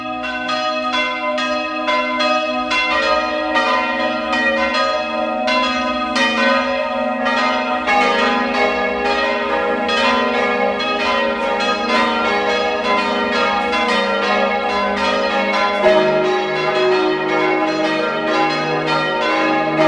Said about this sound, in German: Es ist 12 Uhr. Sie hören die Glocken der Stadtpfarrkirche von Langenlois in Niederösterreich.